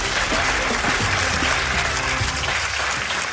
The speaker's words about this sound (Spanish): Un aplauso, un aplauso. Gracias, gracias.